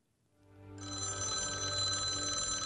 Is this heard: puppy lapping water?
no